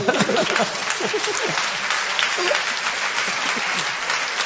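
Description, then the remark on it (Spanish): An audience at a comedy show claps in a dense, steady patter that holds at an even loudness for the whole stretch, with a few voices faintly mixed in near the start. “Ustedes aplauden y están contentos porque no se cruzaron.”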